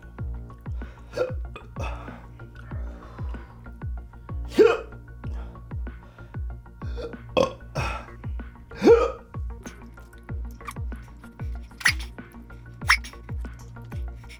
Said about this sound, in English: He's already got the hiccups.